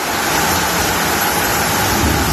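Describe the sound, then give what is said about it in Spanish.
Torrential rain pours down in Gandía, in the Valencia region, in a dense, steady hiss and roar, loud and unbroken throughout, with no voices or other sounds breaking through. “Con esta fuerza que escuchamos, caía en Gandía, en esta localidad valenciana, la lluvia.”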